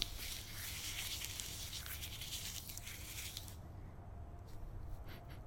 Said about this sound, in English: Picking a leaf. Again, a bit loud for the microphone, but it was a struggle to get it off. Crunching the leaf in my hand.